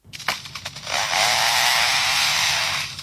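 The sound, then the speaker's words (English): A lyrebird mimics a chainsaw: a few sharp revving bursts, then a sustained, steady buzzing whine that holds loud for about two seconds before tapering off. No one speaks. “Would it be a lyrebird?”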